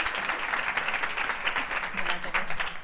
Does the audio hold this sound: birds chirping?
no